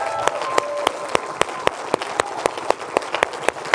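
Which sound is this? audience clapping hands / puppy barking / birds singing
audience clapping hands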